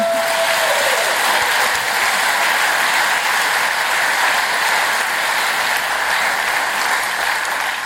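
A crowd of people claps steadily for several seconds, a dense, loud wash of applause that holds at an even level from start to finish.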